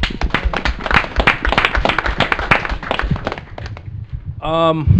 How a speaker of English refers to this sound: First of all, welcome you guys to our panel. Round of applause for you guys showing up on a Sunday.